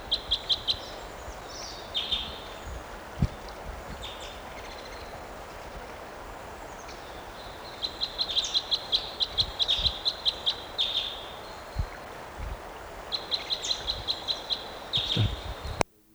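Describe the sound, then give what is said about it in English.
A bird repeats high, rapid trilling type 5 calls in several bursts, with a fainter second bird giving a type 5 call that sounds just like it, over a steady background hiss and a few low thumps. “There's another type 5 that sounds just like it here. Maybe this bird's mate.”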